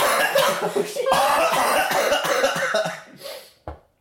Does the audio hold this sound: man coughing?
yes